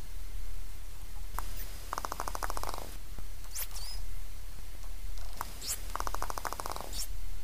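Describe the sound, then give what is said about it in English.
Harsh, screaming dolphin whistles rise sharply amid two loud bursts of rapid buzzing pulses, all over a steady low underwater rumble, during an aggressive encounter with a group of male dolphins. “Sometimes it is accompanied by a harsh dolphin whistle that sounds a lot like a scream.”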